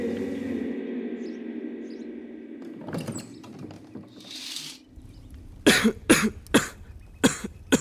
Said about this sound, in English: Are you okay? Just a cough. You always say that.